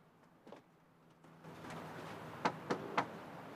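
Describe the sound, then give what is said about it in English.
Three sharp knocks on the door of a house in a narrated story, in quick succession, sounding over a low steady background hiss after a few softer taps and rustles at the start. “She knocks on the door.”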